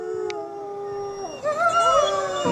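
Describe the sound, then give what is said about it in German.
A wolf howls in a long, steady tone that bends and wavers, joined midway by other overlapping howls forming a chorus; clear, with no talking. “Ihr habt es vielleicht schon erkannt. Der Wolf ist das.”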